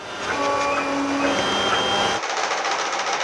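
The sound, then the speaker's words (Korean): A 3D printer running steadily at the West End public library in Washington, DC, its stepper motors whining in shifting tones over a constant mechanical hum, with the sound changing character partway through as the print head moves. “웨스트엔드 도서관에선 3차원 프린터나 재봉틀 등도 갖춰놓고 지역 주민들의 필요에 따라 마음껏 사용할 수 있는데요.”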